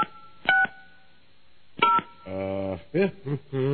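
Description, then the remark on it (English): A phone number is dialed to call someone's mother: short keypad tones beep one at a time with gaps between them, followed by a buzzy electronic tone pattern. The sounds are clear, with no voices. “All right, we're calling my mom now.”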